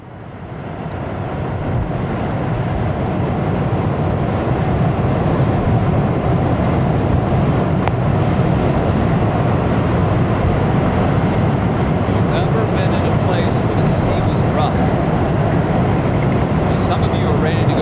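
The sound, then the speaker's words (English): Rough sea churning in a loud, continuous roar that swells over the first few seconds and then holds steady, a dense low rumble of waves and wind with no distinct individual breakers. “It's dark. The sea is rough.”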